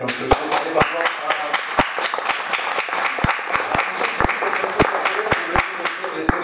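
A debate audience applauding, with a dense wash of many hands clapping and sharper individual claps popping out irregularly throughout, steady and fairly loud for the whole stretch, with some murmuring underneath.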